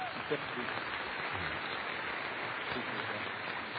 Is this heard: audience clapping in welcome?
yes